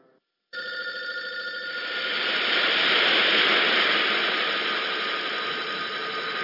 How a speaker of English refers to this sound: Hey, jackass, pick up the phone. Pick up the phone, dumbass. Hey, it's something important. I bet it's something important. Go pick up the phone. Go on. Go on, pick up the phone. Do it.